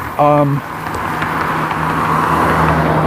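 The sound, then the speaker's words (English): A car rolls by on the street with a steady, fairly loud engine and road rumble throughout, briefly topped by a short tonal burst near the start. “So, speaking of cars and colors, and I wasn't really speaking of cars, but I was thinking of cars because there's a car coming and I was in the street.”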